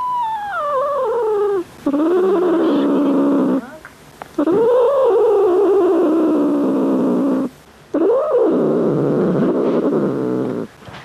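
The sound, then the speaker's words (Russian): A struggling cat named Ryzhik, having tights pulled over its body to keep infection out of a wound, lets out loud, drawn-out distressed yowls, four or five long cries sliding up and down in pitch with only brief pauses between them, and no talking. “Сейчас на туловище Рыжика натягивают колготку, чтобы в рану не попала инфекция.”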